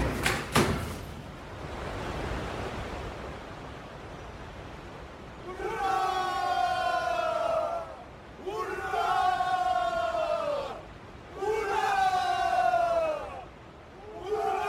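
A hoarse crowd clamor rises from across the river, where the Peter and Paul Fortress stands, in three long, swelling bursts of massed shouting, each holding a few seconds with a falling pitch, separated by brief lulls over a steady murmuring background.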